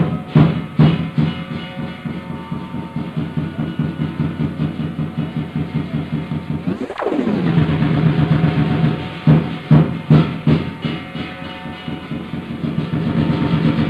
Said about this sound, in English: The instruments you're hearing in the background are something resembling a kettle drum, although I'm sure that's not what it is, and two cymbal-type affairs, like crashing cymbals. Those are the sounds you're hearing in the background